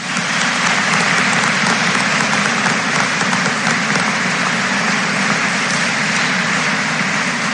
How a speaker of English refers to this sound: Please join me in giving these Fort Recovery Alumni Association scholarship recipients a round of applause.